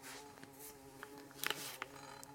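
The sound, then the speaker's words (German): A large bumblebee inside a studio drones steadily in a low, continuous buzz, its pitch wavering slightly as it flies around, with a few faint clicks and taps in the background. “Wir haben eine Hummel im Studio, meine Damen und Herren. Man hört sie.”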